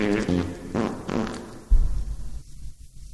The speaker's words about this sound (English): Hey, what happened to the fart sounds? We need fart sounds.